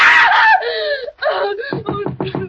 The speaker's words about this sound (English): What on earth is wrong? Why were you screaming? Oh, Benson, I must have been dreaming. It was horrible.